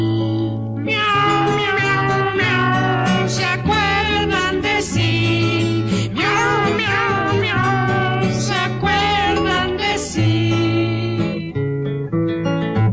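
Repeated meowing sounds, drawn out and wavering, ride over a steady musical backing with a bass line, coming one after another in a sung, rhythmic pattern throughout.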